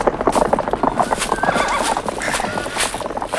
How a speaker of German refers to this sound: Los! Macht schon, dass ihr wegkommt! Los! Weg, ihr Pferde! Los!